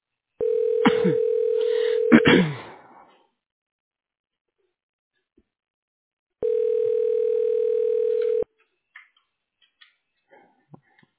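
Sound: telephone dialing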